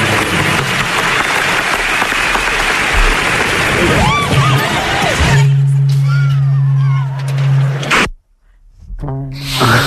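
A loud crowd roars and shrieks, with high rising screams over dense cheering noise. A steady low drone then holds under scattered cries before a brief cutout and renewed shouting.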